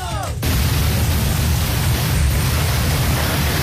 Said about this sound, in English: In Toledo, Ohio, Sunday night, an entire U-Haul truck exploded. Listen to this.